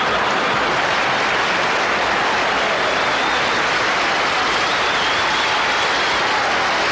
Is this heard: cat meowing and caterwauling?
no